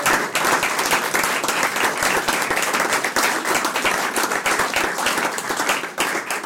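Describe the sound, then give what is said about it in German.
An audience claps and applauds steadily after being thanked for coming, a dense wash of many hands that stays loud and even throughout, with no voices standing out. “Also, danke euch fürs Kommen, gell? Applaus.”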